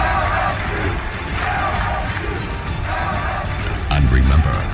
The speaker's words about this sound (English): And as it happens every single season, the box comes alive with the roar of the crowd ringing across the bayou.